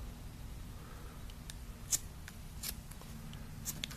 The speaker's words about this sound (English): Okay, so we've got it tied off to the very edge, right down there to the buckle. Now we just take our scissors.